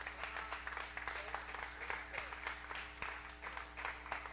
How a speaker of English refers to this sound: Can we clap our hands for Jesus?